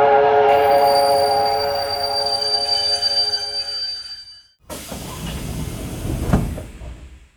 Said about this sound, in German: Beide laufen zum Bahnhof. Der Zug kommt gerade an.